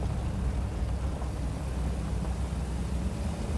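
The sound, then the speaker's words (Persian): A steady low rumble of a car with two people inside driving along a road, its engine and tire noise droning continuously, with no voices. “ماشین تو جاده است.”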